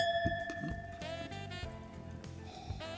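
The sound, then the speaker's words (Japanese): Glasses of Coco Farm Winery's Nomindosso 2024 wine, from Ashikaga, Tochigi, clink together in a toast, leaving a clear, bright ringing tone that lingers and fades, followed by a second soft touch of glass with more shimmering resonance. “うん、 早速ついでみたいと思います。 なかなか大地を匂わせるようなネーミングですね、ノーミンドッソ。 そうですね、 うん、 では、 はい、乾杯。乾杯。”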